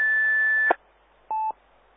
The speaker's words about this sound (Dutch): 1750 hertz hoor ik, maar ik hoor er geen call achter.